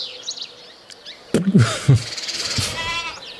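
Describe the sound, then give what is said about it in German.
Goats bleat in a couple of short, wavering cries as a man feeds them, while birds chirp and twitter faintly in the background of an outdoor farm setting. “Und füttert quasi die Ziegen oder was auch immer.”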